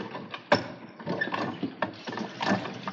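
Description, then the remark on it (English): A hand water pump creaks and clanks through repeated strokes as water is pumped for a horse, a steady mechanical rhythm of squeaks and knocks, moderately loud with no voices. “I'll pump you.”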